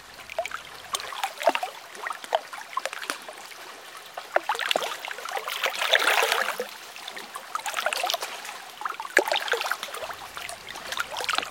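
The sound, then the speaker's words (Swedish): Small sea waves lap and splash against rocks, a steady irregular sloshing with occasional brighter splashes and gentle swells, with no voices. “Vågornas tidlösa ljud.”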